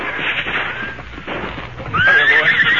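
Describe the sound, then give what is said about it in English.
A horse lets out a loud, wavering whinny near the end, following a stretch of busy, uneven hoofbeats clip-clopping, with no voices. “Where are the horses? Silver Scout, right here.”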